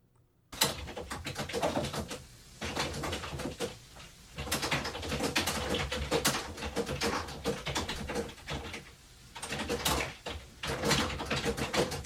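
Loud, rapid keyboard typing clatters on for about twelve seconds, a dense stream of sharp clicks with brief pauses between bursts, with a faint low hum underneath and no voices.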